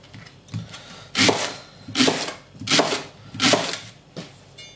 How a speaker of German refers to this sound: Ja, also schön Ringe schneiden.